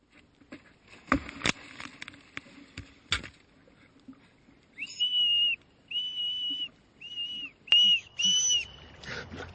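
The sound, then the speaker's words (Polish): After a few scattered taps and knocks, a whistle is blown in five short, shrill blasts, evenly spaced. Nobody speaks. “Zaopatrz się w kolce lodowe i gwizdek.”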